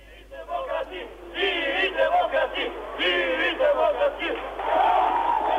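A large crowd cheers and shouts loudly at night outside the Democratic Party headquarters in Tirana, Albania, in 1991, after the country's first free parliamentary election, a dense roar of many voices rising and falling in waves, with chanted calls swelling toward the end.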